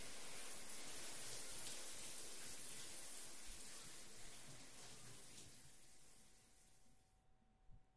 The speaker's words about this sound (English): Well, I think we've been in the shower for too long.